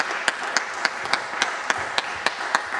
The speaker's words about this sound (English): Let's give Lord a round of applause.